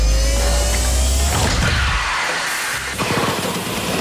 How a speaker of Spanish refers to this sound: Lo pulso y se encienden los motores.